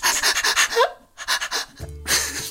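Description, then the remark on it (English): Someone imitates a dog on heat panting: quick, breathy huffs in a fast, rhythmic run, a brief pause, then another burst of panting and a final longer rasping breath. “I thought a dog on heat was when a dog gets on two legs and gets up to the fireplace and is like...”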